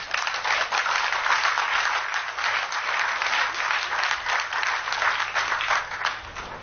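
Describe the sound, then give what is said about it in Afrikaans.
Steady, dense applause from many clapping hands, holding an even loudness for several seconds with no voices standing out. “Baie dankie Ronelda, en jy sal so af en toe Ronelda se baba, die eersteling, ook hoor applaudisseer en saam opgewonde skree.”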